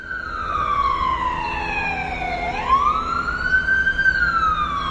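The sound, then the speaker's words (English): A loud emergency siren wails past a house, recorded from its balcony, its tone sweeping down then rising again, with harmonics stacked above and a low rumble of traffic underneath; no one speaks. “This is a recording I made from our balcony, and it's a sound we came to know very well as a siren raced past, the noise blasting through the house several times a day.”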